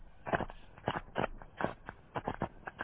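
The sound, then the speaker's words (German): Thick mud bubbling and popping in a steady, irregular series of soft plops and gurgles, moderately loud, with no voices. “Schlammblasen.”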